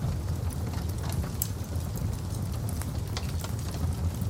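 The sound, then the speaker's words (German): A fireplace fire in a farmhouse in the village of Niederurf, Schwalm-Eder district, northern Hesse, Germany, crackles steadily, with irregular sharp pops and snaps scattered over a constant low, rumbling roar; no one speaks. “Ein Kaminfeuer prasselt in einem Bauernhof 30 Kilometer weiter westlich im Dorf Niederurf.”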